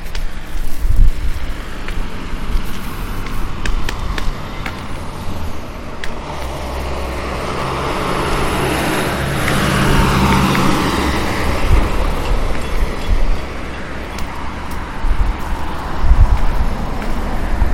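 Steady street traffic rumbles past at a corner on South Kingsborough Avenue, with low engine drone and a swell of passing vehicles around the middle, mixed with some wind buffeting and no talking.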